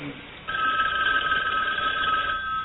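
A telephone rings with a steady, high electronic trill that starts half a second in and continues to the end, loud and sustained over a faint background.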